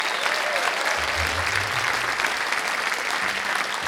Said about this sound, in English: Can we give a huge hand to our incredible sound engineer